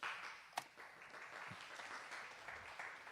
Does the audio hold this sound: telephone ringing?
no